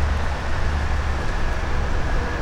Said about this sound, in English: Other than traffic noise, we've got not a lot. Traffic noise and wind. Got wind blowing the leaves out of the trees.